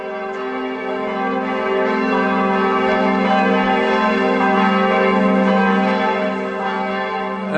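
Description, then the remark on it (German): The church bells of Freiburg Minster in Freiburg ring continuously, their layered tones blending into a rich, sustained wash of overlapping peals that stays loud and steady throughout, with a little market noise. “Und diese Glocken hier, das sind eben keine toten Glocken, sondern das sind die Glocken des Freiburger Münsters.”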